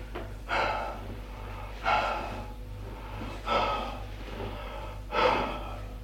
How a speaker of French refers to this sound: Elle s'assoit dans un fauteuil, essoufflée.